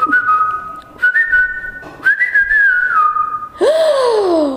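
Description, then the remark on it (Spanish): A whistled imitation of birdsong: several sustained, wavering tones that step slightly up and down, then a final loud swooping whistle that rises sharply and glides downward, with no talking. “A la mañana siguiente, como todos los días, el pájaro comenzó a cantar.”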